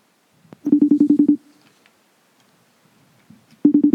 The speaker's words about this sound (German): Das läutet mit... Geil, das tönt. Das läutet sogar wie noch mit Video, super.